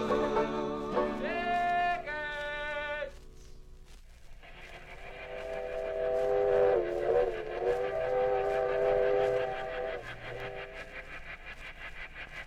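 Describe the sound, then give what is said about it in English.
A steam train carrying passengers to the zoo whistles in a few short, bright blasts, then holds a long wavering whistle over a steady rumbling chug, fairly loud. “The train to the zoo speeds along the tracks, past farms and towns, over bridges and through tunnels, and then...”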